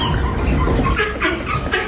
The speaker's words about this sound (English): So employees guided Mama Duck and her waddling babies through the hospital corridors, as you can hear.